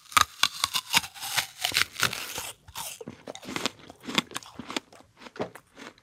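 A loud bite into a crisp Cosmic Crisp apple, followed by a run of sharp, crackling crunches as it is chewed in quick irregular bursts, with no talking.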